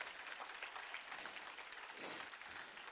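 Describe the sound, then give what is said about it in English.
A crowd claps together in praise of God in a dense, sustained burst of applause, many hands at once, steady and fairly loud throughout with a brief swell near the end. “I'll give God a hand clap of praise in this place.”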